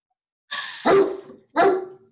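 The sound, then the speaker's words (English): A dog named Atlas gives two loud, harmonic barks about a second apart, each with a raspy onset and a ringing tonal tail, with no voices. “Atlas, no noise. The dog and the baby, man.”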